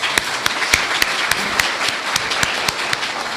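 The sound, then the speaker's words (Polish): Audience applause in Nowogródek Pomorski, West Pomerania, Poland: steady, dense crackle of many hands clapping, with sharper individual claps punctuating it at a fairly regular beat, loud and continuous with no talking. “Brawa dla Was!”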